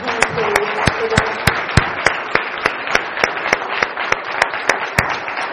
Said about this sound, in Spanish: Un aplauso al Señor por nuestros hermanos.